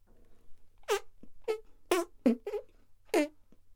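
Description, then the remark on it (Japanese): Six or seven squeaky, tonal fart noises pop out in quick succession, fairly loud, each a short rising or falling squeal with brief gaps between them and no talking. “あなたに書いてほしいの、あなたに聞いてほしいの、アナルの扉開いて弾けるおならリズム。”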